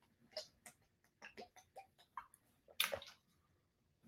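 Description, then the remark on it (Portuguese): Gulping and sloshing as someone drinks water straight from a bottle, a quick irregular run of swallows ending in a louder splashy gulp, with no talking. “Cada vez que a minha mãe me vê tomando garrafa assim na água, ela diz que é um horror, gente.”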